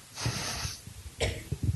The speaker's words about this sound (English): That cough is healed in Jesus' name.